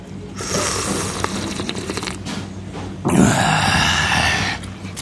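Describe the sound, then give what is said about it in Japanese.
Two long, wet slurps of a mochi pork miso chashu ramen, with thick miso broth and medium-thick noodles topped with bean sprouts, cabbage and green onion. The first is a steady sucking drawn out over a few seconds, the second louder and airier. No one speaks. “うん、でこのね、丁寧だけどもね、濃厚なこの味噌スープ、すするぞ。”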